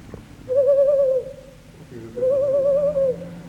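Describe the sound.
A museum curator imitates an owl with two long, wavering hoots, each held for about a second with a short pause between, fairly loud.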